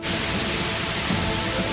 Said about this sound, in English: The gun barrel is hosed, and the booth is filled with spray.